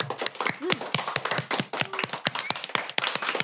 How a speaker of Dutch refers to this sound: Oké, okay, nou mag ik voor nu een heel groot applaus voor de vier experts van vandaag.